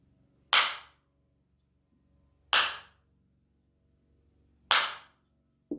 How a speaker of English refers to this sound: I make three, this is like a Zen, Korean Zen tradition, right? So when we start, I make, you know, like knock with the bamboo stick.